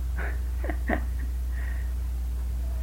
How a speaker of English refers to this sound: My little doggie's barking. Would you like to let him in or something? Well, just let her go. I'll see. If she keeps it up, I'll have to let her in.